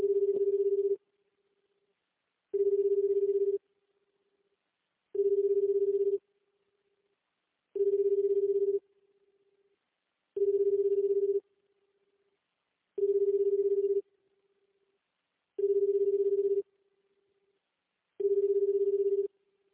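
A telephone rings for an incoming call: eight evenly spaced, low, steady electronic tones, each about a second long with short gaps of silence between, clear with no voices.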